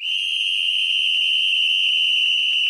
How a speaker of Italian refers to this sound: Poi soffiò nel suo stridulo fischietto, trapanandoci i timpani.